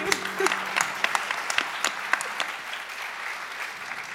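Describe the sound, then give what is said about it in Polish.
Steady audience applause, a dense patter of many hands clapping with sharper individual claps standing out, holding at an even level for a few seconds with no voices over it. “Wielkie brawa.”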